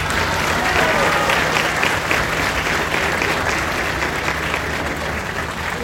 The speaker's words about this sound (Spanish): Y pido un fuerte aplauso.